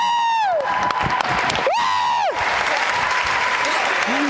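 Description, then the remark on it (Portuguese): A crowd breaks into sustained applause with whoops and cheers for a man in glasses in the audience, dense clapping throughout, while high-pitched shouts rise and fall over the noise near the start. “Agora, uma grande salva de palmas para este homem viciado no telemóvel de óculos aqui.”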